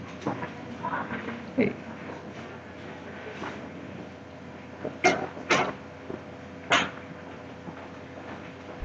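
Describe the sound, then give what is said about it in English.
A few sharp thuds and clatters, like a door being opened and shut as someone answers a knock, come over a quiet, murmuring background, with faint scuffling between them. “Can somebody get the door? I heard somebody knock.”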